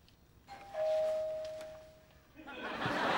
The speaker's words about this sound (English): Now, ring the bell.